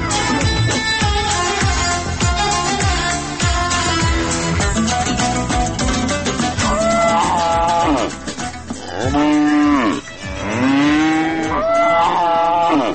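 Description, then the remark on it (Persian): Cattle lowing at a livestock farm in the Bini Hisar area of Kabul, Afghanistan, a dense chorus of loud, overlapping moos, with several long, deep calls that rise and fall in pitch standing out toward the end. No one speaks. “ما هم به همین ارتباط سر زدیم به فارم مالداری منطقه بینیحصار کابل و گزارش از این فارم تهیه کردم که حالا میشنوید.”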